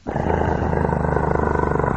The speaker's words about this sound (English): I called out, "Duke, shut up!" And he stopped for a second, and then started back up. This time a bit louder. I decided to try and ignore him and focus on work, but he went on for a couple more minutes with a steady growl.